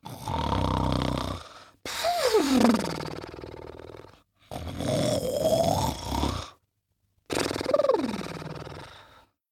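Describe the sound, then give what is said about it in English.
A voice imitates loud, pig-like snoring: four rough, rasping snorts in steady succession with short gaps between, with no other sounds. “The sun was sleeping soundly and snoring like a pig.”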